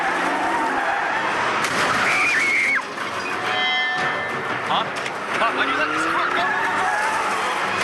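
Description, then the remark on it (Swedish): Electric cars with failed autopilot systems skid and crash into each other amid dense, roaring traffic on the road from Long Island to Manhattan: a couple of high tire squeals ring out, then several bursts of impact and clatter, while voices call out indistinctly underneath. “Och att bilarna krockar med varandra.”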